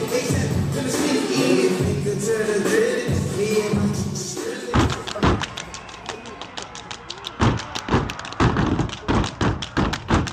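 The Black Ice Step Team of the College of New Rochelle in New York stomps and claps in a sharp, rhythmic routine at the school's Straw Fest, loud percussive hits ringing out in quick patterns after a noisy opening of crowd voices and cheering.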